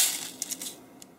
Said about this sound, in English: and I carefully listened to the noises of the coffee making process. The collecting and pouring of the grinds into the filter.